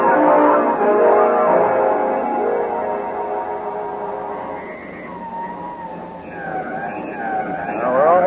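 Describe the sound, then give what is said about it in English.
A police car siren wails with rising and falling tones, emerging over a dense rumble of engine and traffic noise and growing louder toward the end. “Quickly, Stevens, a police car and an escort.”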